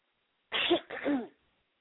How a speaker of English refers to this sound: Oh, I thought you sneezed. No, it was a cough.